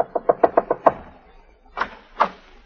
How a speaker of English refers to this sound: Now we find her knocking frantically on Jeff's door.